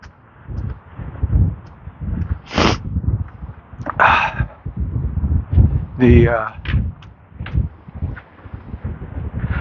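Strong, chilly wind buffets the microphone in loud, gusty waves of low rumbling noise that rise and fall throughout, with a few brief sharper rustles and whooshes breaking through, on a partly cloudy April morning in the High Plains east of the Rocky Mountains in Gray, Colorado.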